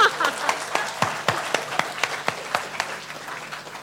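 An audience applauds, a dense wash of overlapping claps punctuated by a few sharp, louder individual claps at a steady rhythm, gradually fading a little toward the end.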